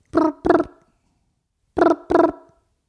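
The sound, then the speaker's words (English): A voice imitates the Mario Kart mobile game ringing on a phone: two pairs of short, buzzy, voiced bursts separated by a second of silence, fairly loud and with no other talk. “This oh, is I guess- my impression of Mario Kart on the phone.”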